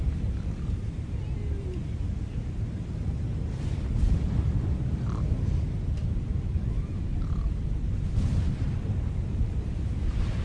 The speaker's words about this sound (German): Sie warfen nicht kleine Toaster über Bord, sondern richtig große Fracht, weil sie so große Angst hatten, dass ihr Schiff untergeht und sie ertrinken in dem fürchterlichen Sturm.